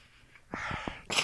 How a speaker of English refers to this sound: I'm taking the all colors. Okay. Let me get a sniff on these.